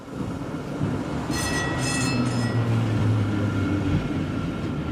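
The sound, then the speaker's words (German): Steady rumble of a tram ride heard from inside, with continuous low engine and wheel noise and a brief high metallic squeal from the wheels partway through. “Eine junge Frau steht in der Straßenbahn und telefoniert.”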